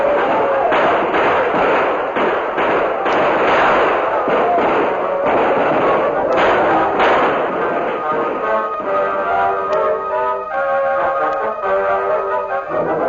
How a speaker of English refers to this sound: Then a welcome sound was heard. Tom Fuller, leading about 30 men, galloped into the village with guns barking.